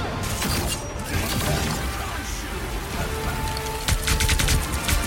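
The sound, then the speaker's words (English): Bombs explode in a dense barrage, booming bursts and sharp cracks piling on one another over a constant rumbling roar, with a louder cluster of blasts near the end. “Bombs away!”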